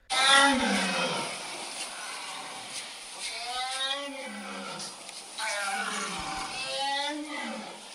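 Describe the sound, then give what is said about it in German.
A fierce animal roar rings out from the forest in three long, drawn-out bellows that rise and fall in pitch, loud, with a rumbling growl between them. “Plötzlich kam aus dem Wald ein schreckliches Brüllen.”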